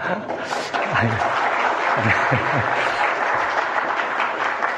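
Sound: audience applauding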